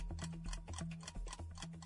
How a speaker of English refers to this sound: Here is the timer.